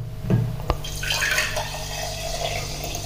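Sparkling mineral water pours steadily from a bottle into a cup, with a fizzing, bubbly hiss over a continuous splashing stream and a brief clink near the start. No one speaks.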